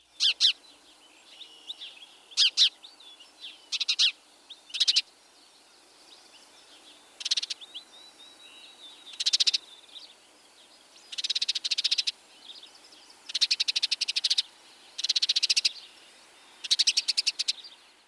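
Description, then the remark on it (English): A house sparrow chirps repeatedly, then breaks into harsh, rattling scolding chatter in short bursts with brief pauses between, clear against a quiet background with no voices. “Also note the scolding chatter.”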